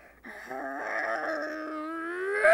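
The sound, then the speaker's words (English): A person imitates a German Shepherd's bark as a single drawn-out, wavering vocal cry that holds steady for about two seconds and swoops upward at the end, fairly loud. “But none can compare to the greatest bark of all, the German Shepherd.”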